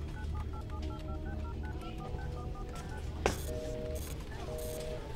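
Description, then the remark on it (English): A quick run of short telephone keypad tones, about a dozen evenly spaced beeps, over a steady low background hum, followed by a sharp click and a couple of longer tones. “They have satellite phones, for fuck's sake. How can they all be unreachable?”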